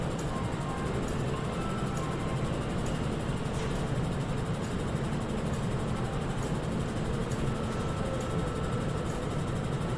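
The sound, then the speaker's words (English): A train departs from a station after its doors close, leaving in the same direction in which it arrived, with a steady, heavy low rumble of engine and rolling noise that stays loud and continuous throughout, with no voices. “And the train is departing.”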